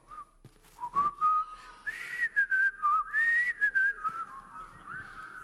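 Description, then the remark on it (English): An audience whistles a melody together, a steady tune that rises and dips over several seconds, with breathy bursts of noise around the notes and no talking. “Man, y'all whistle really well.”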